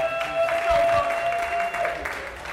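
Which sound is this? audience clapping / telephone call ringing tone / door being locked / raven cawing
audience clapping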